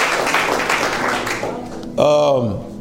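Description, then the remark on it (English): An audience applauds a volunteer who put the Bible verses up on screen, a dense, steady wash of clapping for nearly two seconds, then a man's voice starts talking as the applause trails off underneath. “A round of applause”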